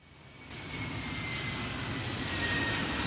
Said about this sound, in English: That's not a UFO, by the way. That's an airplane.